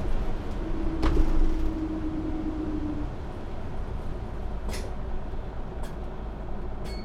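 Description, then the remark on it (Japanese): Steady low rumble of a city bus interior on the move in Nagasaki, Japan, driving between stops, with a brief engine whine early on and a few faint clicks and rattles; no one speaks. “お降りの際はバスが止まるまでお待ちください。”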